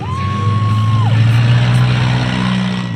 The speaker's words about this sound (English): They line up in formation, gun the engines, and head toward the field of battle. And then it's on.